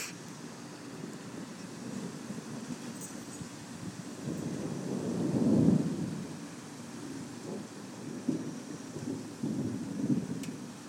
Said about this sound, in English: That was okay. Seems like the thunder's kind of dying down now, you know? Yeah, it does. But definitely, that's not going to be anything severe.